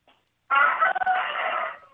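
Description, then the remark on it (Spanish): A single rooster crows once, a loud, sustained, slightly hoarse call lasting just over a second before trailing off, with no one talking. “Buenas no, es que salió el gallo primero”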